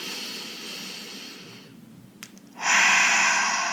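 Slow, deep breathing in and out: a long airy exhale fades out, a brief pause, then a strong rushing inhale fills the end. No talking.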